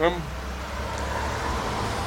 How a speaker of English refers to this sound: Oh, man. There was a car just in a three-point turn. I thought it was turning for us.